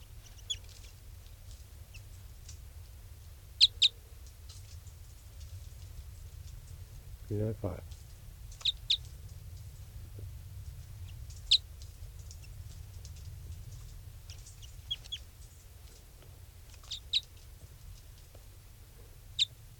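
A bird, number 395, calls in short, sharp, high-pitched chirps, repeated every few seconds over a steady low rumble, with one brief thump partway through.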